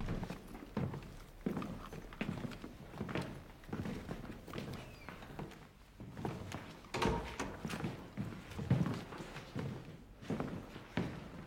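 Several sets of footsteps thud across a hard floor in an irregular, overlapping rhythm, with occasional knocks and shuffles, as a group of uniformed men follows a woman into her apartment.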